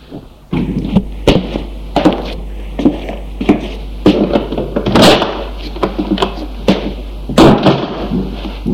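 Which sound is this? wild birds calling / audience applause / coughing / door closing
door closing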